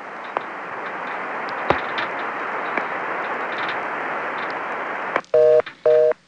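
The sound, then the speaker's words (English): A steady telephone line hiss with a couple of faint clicks, then a telephone reorder tone: two loud, buzzy, mid-pitched bursts in quick on-off succession at the end. “But as it is, I get to listen to reorder for a while and then drop right off.”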